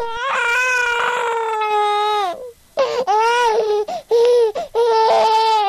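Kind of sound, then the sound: human body sound, baby crying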